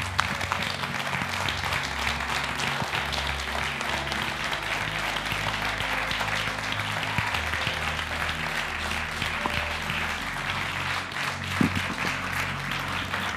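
An audience breaks into a long, steady round of applause for Jesus, a hand clap of praise, many hands clapping together in a dense, sustained wash of sound with no voices rising above it.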